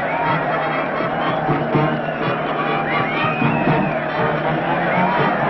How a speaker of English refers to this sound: And look at that mob waving and cheering. It's at the other end of a bridge the castaways approach.